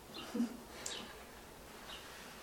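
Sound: small bird singing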